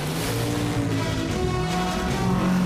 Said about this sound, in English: The swerving boats kick up fountains of spray.